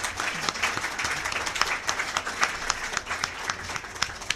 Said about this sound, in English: Well, that concludes our forum. Please thank our participants with some applause.